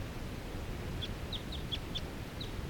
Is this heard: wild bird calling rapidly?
yes